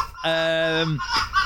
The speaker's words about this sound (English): A fox. Correct. Yes! It's rutting foxes. That's my house. That's what it sounds like.